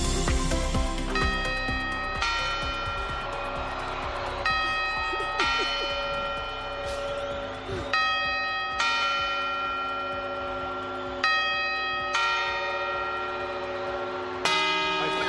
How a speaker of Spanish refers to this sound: Primero serán los cuatro cuartos y después las 12 campanadas. Así sonará el reloj de la Puerta del Sol mañana a medianoche y con este soniquete.